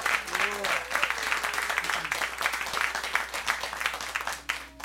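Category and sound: crowd, studio audience applause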